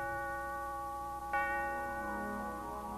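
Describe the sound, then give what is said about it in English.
A steeple bell rings with a deep, sustained metallic hum, and one fresh strike lands midway through, its overtones lingering steadily, in London on early Christmas morning while heavy snow falls. No voices are heard. “There's a steeple bell.”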